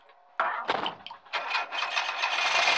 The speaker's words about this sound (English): All POIs then leave the residence, climb into the back of their van, close the doors, and their driver leaves.